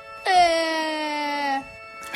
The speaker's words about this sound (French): Hinkel pleure comme un enfant ayant cassé son jouet